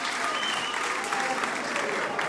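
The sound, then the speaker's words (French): Steady audience applause for the director of the Alliance française fills the whole stretch, a dense, even wash of many hands clapping at a constant loudness with no single claps standing out and no voices. “que je vous demande d'applaudir, s'il vous plaît.”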